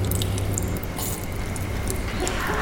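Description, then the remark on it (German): Wet squelching and smacking of flesh in a Florentina Holzinger performance, a dense, continuous mush of sticky slaps and squishes with irregular sharper splats over a low rumbling bed, steady in loudness throughout. “Zum Beispiel das schmatzende Fleisch bei Florentina Holzinger.”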